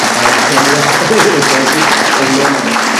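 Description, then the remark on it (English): An audience applauds circuit judges at the 2014 candidate forum in Estill County, carried live by WSKB. The applause is steady, a dense, loud wash of clapping that holds for about three seconds, with faint voices murmuring underneath. “If we could have a round of applause for our circuit judges.”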